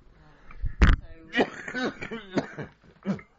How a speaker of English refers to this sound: Excuse me. Yeah, right. If I lean back, I always get a cough.